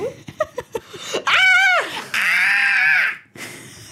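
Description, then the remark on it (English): People vocally imitate a fox's scream: a couple of quick laughing bursts, then two loud, sustained, wavering shrieks, the first with a quavering pitch, the second a long harsh wail, strained. “You guys are not even exaggerating. Like, that's about what a fox screams like.”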